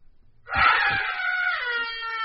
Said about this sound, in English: The screams. They are beginning again. The screams.